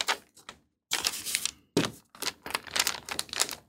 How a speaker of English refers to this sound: I'm just going to start to roll it out between these two pieces of greaseproof paper, just so I get my base.